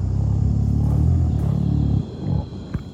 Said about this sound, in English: Gorillas sing and they hum when they're eating. If you talk to a zookeeper, they'll probably be very familiar with this. But actually, gorillas also do it in the wild. So here's a clip of a gorilla humming.